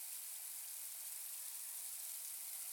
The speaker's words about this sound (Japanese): こっちからもシャーシャーシャーシャー。 やっぱり水の流れる音ってなんかいいよね。